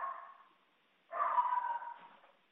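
A dog barks in two bursts, a short one fading at the start and a longer, drawn-out one after a brief pause, moderately loud, with no talking.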